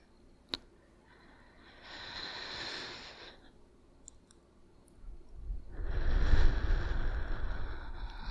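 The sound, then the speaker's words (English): Two slow, deep breaths with no talking: a soft airy inhale lasting about a second and a half, a pause, then a longer, heavier and louder exhale with a low rushing rumble. “I'll breathe with you for the first few.”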